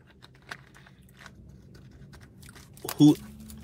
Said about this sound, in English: I'm going to take a sip on that. I ain't taking my wife tips and sips, but I'm going to sip on that.